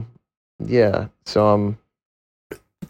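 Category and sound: human body sound, sneeze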